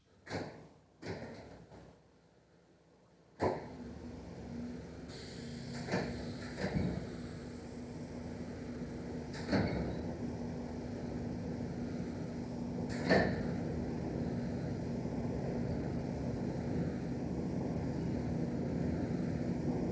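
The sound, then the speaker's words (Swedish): A few sharp clicks and a brief pause, then an X7 railcar starts up and gets moving into a steady, droning hum with a low tonal whine, broken by occasional louder clicks. No one speaks. “Så låter en X7 tydligen.”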